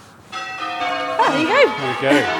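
Church bells of Dorchester Abbey ringing a peal, a sustained, resonant wash of tones starting shortly after the opening and continuing throughout, with people talking over the ringing in the second half.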